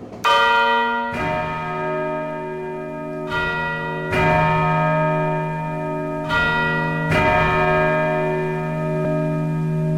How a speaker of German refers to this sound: Mehr von den insgesamt 13 Glocken in der Kathedrale gibt es weiter oben. Dort treffe ich auf die Barbara-Glocke, die pünktlich auf die 4:15 schlägt.